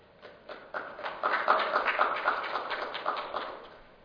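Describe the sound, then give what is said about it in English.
An audience applauds steadily for several seconds as a speaker arrives to present, many hands clapping in a dense patter that swells after a quick start, holds, then eases slightly toward the end. No one speaks over it. “Pressure to get applause on your way up.”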